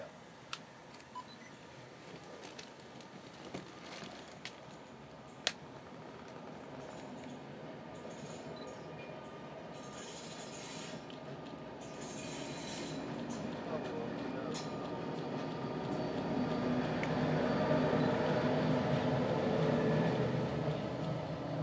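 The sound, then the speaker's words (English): A passing daytime intercity train going the other way rumbles by, its broad, steady roar building louder toward the end, with a few sharp clicks early on and muffled voices in the background. “I assume that's one of the daytime intercity trains going the other way then.”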